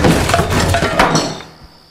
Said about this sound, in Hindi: वो आवाज की ओर भागा और जाकर देखा, सचमुच एक पूरी किताब की शेल्फ गिरी हुई थी।